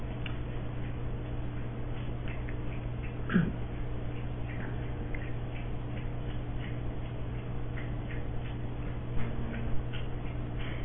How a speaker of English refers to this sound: Thirsty puppy.